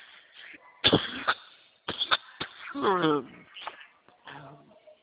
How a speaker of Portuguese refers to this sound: Olha, como eu estava dizendo, me desculpe que me deu tosse, mas eu vou repetir esse pedacinho para o senhor, tá?